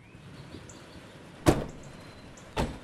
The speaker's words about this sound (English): takes out a bulging sack from the back of his car.